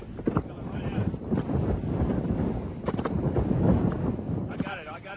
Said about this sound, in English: Stop. Rapid circulation. About one half. Debris. Tornado. Passing right in front of us.